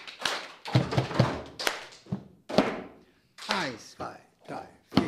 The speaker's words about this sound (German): Immerhin müssen sie den Becher nicht nur im Rhythmus auf den Tisch klopfen